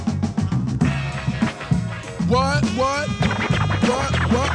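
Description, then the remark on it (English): Turntable scratching over a thumping hip-hop beat, with fast swooping up-and-down strokes in quick bursts, loud and repeated several times across the loop. “Scratch it up one more time.”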